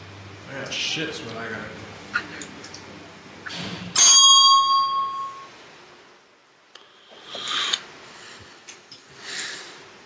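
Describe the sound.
A corded telephone's bell sounds once, a sudden loud metallic ring that fades out over a second or two, with people talking before and after it.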